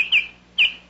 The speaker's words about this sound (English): That was the Baltimore Oriole, asking for more money this year.